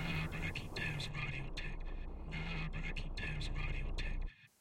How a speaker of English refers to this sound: I've been receiving strange phone calls from unknown numbers in the middle of the night. When I answer, there is discordant static on the other end.